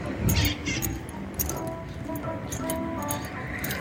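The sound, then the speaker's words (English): A green and yellow wild parrot in San Diego gives a short, raspy call like a sneeze or a laugh near the start, followed by faint scattered clicks over a steady background hiss. “We are coming close to one of our San Diego wild parrots. You can hear it. It sounds like either a sneeze or a laugh.”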